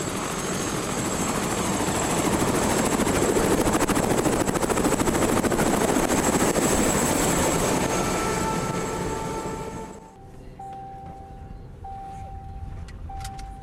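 A loud, dense helicopter roar with steady rotor throb fills the first ten seconds, then cuts down abruptly to a quieter hum with faint intermittent beeping tones.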